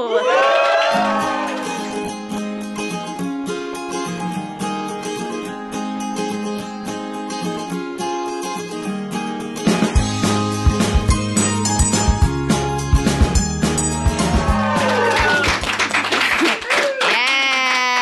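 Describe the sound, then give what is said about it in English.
A small live audience in Chicago cheers and claps steadily for the whole stretch, with high whoops rising at the start and again near the end, loud throughout and growing denser in the second half. “Small but mighty crowd.”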